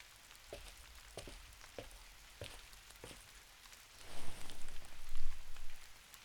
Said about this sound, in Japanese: っていうかさ、昨日までずっと晴れてたのに、なんで急に雨降るんだろう。